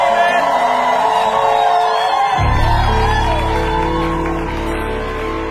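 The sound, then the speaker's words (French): A large crowd of worshippers shouts and whoops together in sustained, loud cries of joy to God, with a deeper rumble swelling beneath the cheering partway through. “Y a-t-il un saint qui peut pousser des cris de joie pour Dieu?”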